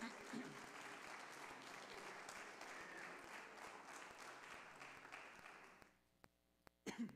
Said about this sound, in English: Can you give God a hand clap this morning?